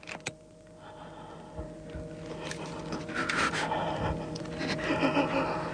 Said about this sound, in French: Vous entendez sa respiration? Il est angoissé. Ça y est, il saisit. Je crois qu'il va réussir à arracher la baguette. Regardez. Vous entendez sa respiration angoissée?